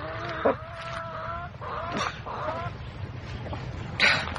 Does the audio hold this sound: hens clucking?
yes